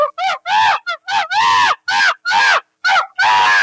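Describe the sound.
A person loudly imitates a screaming chimpanzee while jumping, letting out a rapid series of about eight shrill, hooting shrieks in short, uneven bursts.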